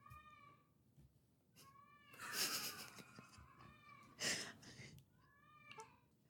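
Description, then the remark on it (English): A cat meows repeatedly, a series of drawn-out, wavering cries broken by a couple of louder, harsher yowls, with no voices over them. “Apparently my cat has very strong feelings about the Laguna Seca.”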